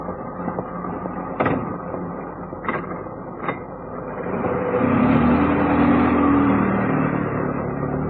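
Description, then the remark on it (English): A taxi bound for the northwest gate of West Ham Cemetery idles with a low rumble. Three sharp knocks sound like a door shutting, then its engine revs up steadily and the car pulls away. No one speaks. “This time, Cannon took a taxi, instructing the driver to go to the northwest gate of West Ham Cemetery.”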